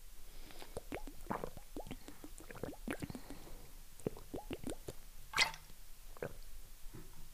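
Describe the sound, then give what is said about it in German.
Someone sips water, with a quiet run of wet mouth clicks, small slurps and gulps, and one slightly louder swallow near the end. No one speaks. “So, ich trinke jetzt einen Schluck Wasser.”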